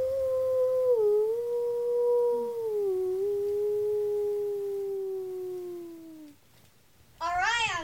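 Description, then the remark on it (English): A person imitates a wolf howl in celebration: one long, steady howl that slowly sinks in pitch for about six seconds, then after a short pause a second, higher, wavering howl begins. “Who wants to hear my best howl?”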